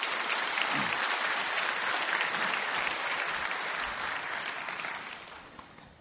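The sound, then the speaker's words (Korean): An audience claps in thanks to God while welcoming a visiting pastor, a dense, steady wash of applause that holds strong for several seconds, then gradually thins and fades toward the end. No one speaks over it. “귀한 목사님 보내주신 하나님께 감사의 박수 올려드리며 목사님 맞이하겠습니다.”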